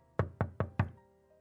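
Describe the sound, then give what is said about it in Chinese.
Four firm, evenly spaced knocks on a wooden door, fairly loud, followed by quiet with a faint background hum. “我正在穿衣服打算去超市蹭空调的时候，突然就听到有人在敲门，赶忙匆匆地整理了一下。”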